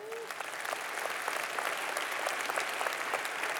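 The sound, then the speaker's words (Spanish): A church audience breaks into sustained applause for the King (the Lord), celebrating new people in the church, a dense, steady patter of many hands clapping at an even volume throughout, with faint voices mixed into the noise. “¿No le da un aplauso al Rey?”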